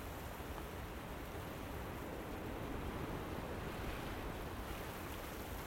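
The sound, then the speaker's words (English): A strong gust of wind roars outdoors through swinging conifers in a dense, continuous rush of noise, holding steady for several seconds under graying skies as rain approaches, with no voices or other distinct sounds. “Yeah, there's a big gust of coming, and the rain's coming because it's now grayed the skies between me and that conifers.”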